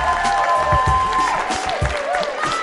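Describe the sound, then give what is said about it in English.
A crowd, including students from Abington Middle School, claps and cheers steadily throughout to welcome a guest, a dense wash of applause with some higher whooping tones and a few low thumps mixed in, loud and sustained. “A round of applause, everybody.”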